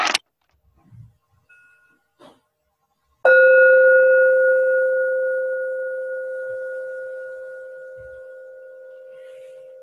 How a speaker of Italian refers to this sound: Chiedo a Riccardo un suono di campana.